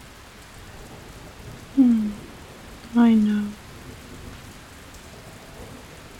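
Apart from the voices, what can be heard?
rain falling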